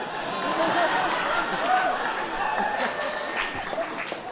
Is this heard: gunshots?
no